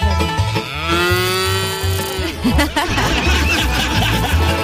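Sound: cow mooing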